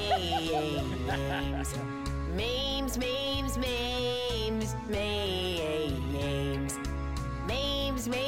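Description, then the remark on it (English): Two dogs, one of them black, bark loudly and repeatedly because someone has knocked on the door, their yips and whiny, drawn-out cries overlapping against a busy, continuous background. “And then the next part is them two just barking their heads off.”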